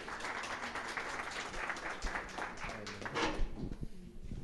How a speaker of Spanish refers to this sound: Vamos a recibirlo con un aplauso y escucharla.